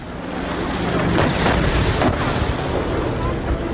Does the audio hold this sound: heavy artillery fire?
yes